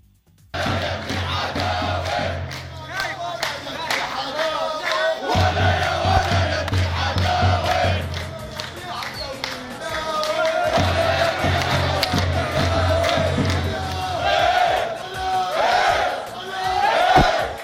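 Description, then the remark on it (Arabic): A stadium crowd of Ittihad Khan Younis football fans chants loudly and steadily in unison in support of their team, with rhythmic pulses of massed voices and a low drumlike thump underneath, sustained throughout without a lone speaker. “خلينا نسمع للمؤازرة والكلمات الرائعة لهذا الجمهور الرائع.”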